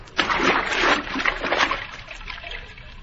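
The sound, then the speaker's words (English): A person plunges into water to swim under it, with a broad, noisy splash, followed by a couple of seconds of churning and sloshing that gradually settles. Fairly loud, with no voices. “I'm going to have to swim under the water in case someone is watching from above.”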